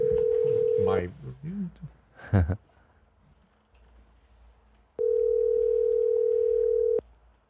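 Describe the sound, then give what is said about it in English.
A phone line's ringback tone, a steady electronic hum heard twice in long two-second rings with a pause between, while people briefly talk and murmur during the gap as the call goes unanswered. “No, nobody picks up the phone when you're calling.”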